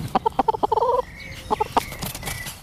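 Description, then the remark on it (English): Chickens clucking at the New Street allotments in a quick, irregular series of short pulsing calls, a brief pause, then a few more clucks over faint background noise. “So that is basically something we do every brew day, cycled up to the New Street allotments, where it's benefiting many gardeners and chickens as well.”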